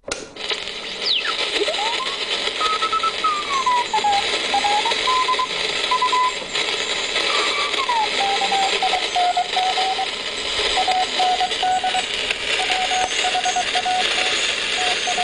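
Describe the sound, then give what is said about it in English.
Recreated Morse code weather radio transmission, recreating a weather broadcast first sent on 4 December 1916: a steady stream of short and long beeping tones whose pitch wavers and drifts, heard through a constant hiss of radio static, with no voices. “at 11 o'clock in the morning on the 4th of December, 1916, we started sending out the weather by Morse code. And we have a recreation of what listeners would have heard.”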